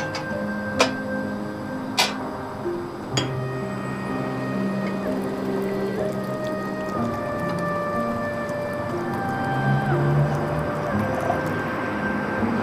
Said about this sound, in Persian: دو تا فنجون آب بکن.